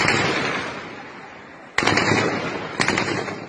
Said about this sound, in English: He told me, first off, our main enemy isn't China, it's our own country's police and troops, terrorizing protesters with automatic rifles. Security forces call it crowd dispersal, but they're using live ammunition.